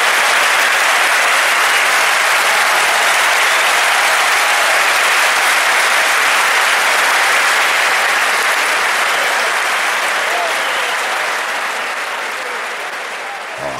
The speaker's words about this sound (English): Can we, dude, you gotta add, can you add an applause to that? Just make it radio magic that.